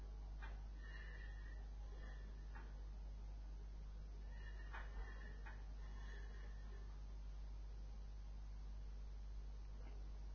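A dog snorts and whimpers, letting out several short, high-pitched whines in quick bursts over the first few seconds, fairly faint against a steady low hum, then fading to quiet.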